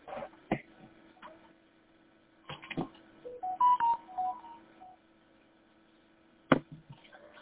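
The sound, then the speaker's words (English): A pound key pressed on a phone keypad while connected to a radio repeater: a short run of steady DTMF beeps, moderately loud, set between sharp clicks and thumps over a low, constant hum. No one speaks. “And I think what I ended up doing is like a hit pound.”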